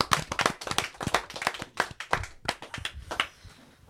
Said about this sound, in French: Égalité. Bravo. Allez, on s'applaudit. Bravo les enfants.